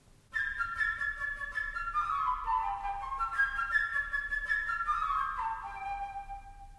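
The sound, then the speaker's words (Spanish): A flute plays the bird theme from Peter and the Wolf, a bright, high, chirpy melody with quick runs and fluttering trills, rising and falling over soft orchestral accompaniment for several seconds, with no voices. “El pájaro por la flauta.”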